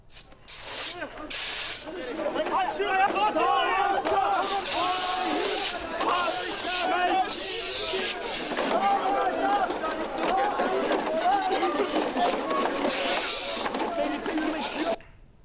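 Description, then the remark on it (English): Repeated loud hissing bursts of pepper spray, used by police to disperse dozens of anti-war protesters outside parliament in Turkey, some lasting a couple of seconds, cut through a crowd of agitated voices shouting and talking throughout. “Right, police use pepper spray to disperse protesters.”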